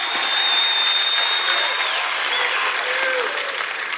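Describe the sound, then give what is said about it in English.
A large crowd cheers and applauds in a steady, dense roar of clapping, with a few sustained whistles cutting through the loud, continuous wash of noise. “Folks, this is a humongous crowd.”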